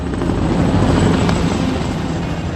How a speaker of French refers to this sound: Mention spéciale aux hélicoptères cette année qui sont passés assez bas, parfois par groupe de 5, Caïmans et Tigres français et allemands, suivis des énormes Chinooks britanniques. Toute la place de la Concorde s'est mise à vibrer à leur passage.